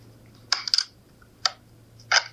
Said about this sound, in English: So it's actually when you open your memory card door. Okay. So it's popping it open. Oh. And then taking the memory card out.